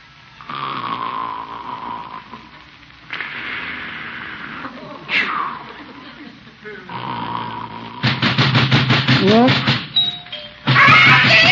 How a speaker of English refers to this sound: Why is he ringing the doorbell?